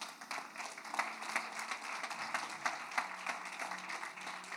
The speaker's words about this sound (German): Ja, lass uns dem Herrn einen Applaus bringen.